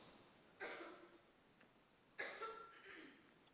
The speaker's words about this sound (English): Thanks for coughing for me